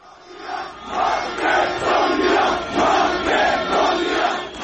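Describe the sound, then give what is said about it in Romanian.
A large crowd of protesters storming the Parliament in Macedonia and attacking deputies shouts and roars continuously, with chanting surges rising and falling in a loose rhythm, loud and dense throughout with no single voice standing out. “În Macedonia, demonstranții au luat ieri cu asalt Parlamentul, atacând deputații ca să protesteze împotriva alegerii unui nou speaker în persoana unui etnic albanez.”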